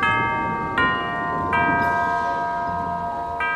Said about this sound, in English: went the grandfather clock.